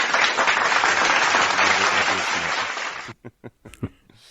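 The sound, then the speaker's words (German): A burst of loud, dense applause from many hands fills about three seconds, then cuts off abruptly, leaving a few scattered, separate claps trailing at the end. “Wird da geklatscht? Da wird auch geklatscht. Alles über 9 klatschen wir.”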